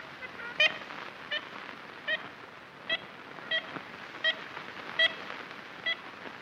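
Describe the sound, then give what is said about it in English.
A series of short, nasal, tooting ivory-billed woodpecker calls repeats at a fairly steady pace, about eight in a row, over a constant background hiss, from a 1930s recording made in the Singer Tract, a hardwood forest in north-central Louisiana. “There is only one recording of the ivory-billed woodpecker made in the 1930s.”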